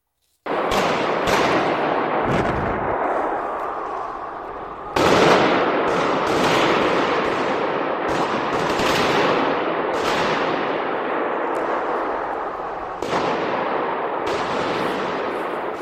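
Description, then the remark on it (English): Relentless gunfire and explosions from a terrorist attack on concertgoers crackle and boom continuously, dense overlapping bursts filling the scene with sharp reports and heavy blasts, loud and chaotic throughout with no speech. “Gunshots, explosions, constant, unrelenting.”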